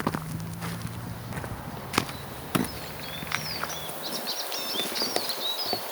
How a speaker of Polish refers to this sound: I mamy tu czyże. Jak mówiłem, w lutym na czyże zawsze można liczyć. To wiecznie wesołe ptaszki, można by powiedzieć. Więc one nawet, gdy jest chłodno, no to śpiewają.